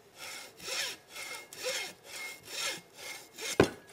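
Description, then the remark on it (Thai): A hacksaw cuts through sisuk bamboo near a node in steady back-and-forth strokes, about six rasping passes, ending with a sharp crack or knock near the finish, while preparing bamboo for kite making. No one speaks. “ผมจะใช้เลื่อยตัดเหล็กนะครับตัดที่ไม้ไผ่ใกล้ๆบริเวณของข้อไม”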